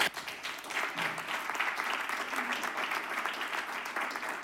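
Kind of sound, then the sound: crowd, audience applause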